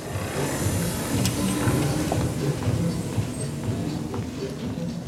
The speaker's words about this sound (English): The whirring sound that slides in and out of the music, that's her power chair zooming across the wood floor of the dance studio.